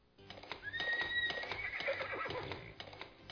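A horse whinnies loudly with a rising, wavering neigh while hooves clip-clop in a steady rhythm, with no one speaking.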